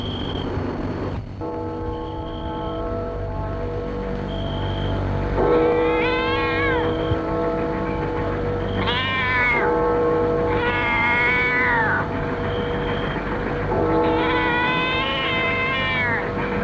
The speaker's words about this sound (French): Un chat vient de me miauler. C'est ce qu'il a fait sursauter.